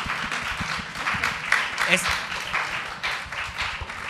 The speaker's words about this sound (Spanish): Aplausos para